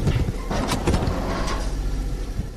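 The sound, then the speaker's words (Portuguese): A heavy garbage collection truck works at night, around 9 p.m., in the Olene neighbourhood north of the capital; its engine runs steadily while short mechanical clanks and hydraulic whooshes break through the low drone. No one speaks. “À noite, às 21 horas, um caminhão de recolha de lixo faz o seu trabalho no bairro de Olene, mais a norte da capital.”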